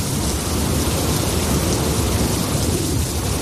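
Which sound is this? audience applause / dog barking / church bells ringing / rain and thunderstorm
rain and thunderstorm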